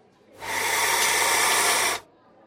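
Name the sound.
snake hissing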